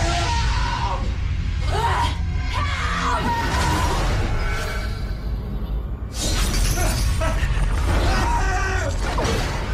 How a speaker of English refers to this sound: I feel like I probably should have picked slightly better trailer clips that weren't just people screaming and really loud mid-2000s sound effects